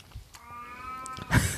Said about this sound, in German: Ist übrigens, wenn ihr sehr merkwürdige Geräusche hört, ist unsere Katze.